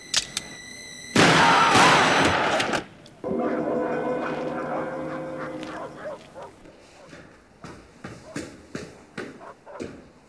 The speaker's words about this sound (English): We heard shots.